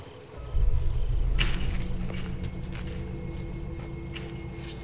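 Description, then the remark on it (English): Car keys jangle in a run of bright metallic clinks and rattles, scattered across several seconds over a steady low rumble in the background, held by a man who spins around in an empty yard as he walks towards his car. “Holding his car keys, he spins around but sees nothing.”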